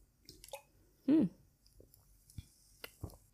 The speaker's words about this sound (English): Because I drank it like 10 minutes before recording. So now it's like 5 minutes in. So that's 15 minutes. That's the time that I need for it to sit in my system. And I'm going to take like 5 more sips.